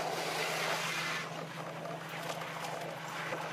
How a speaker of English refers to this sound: hook the truck up to a 35-foot pipe, and then turn the hydrant on, and then attach the other end of the pipe to the hydrant and start filling the truck from there. Okay, here it comes.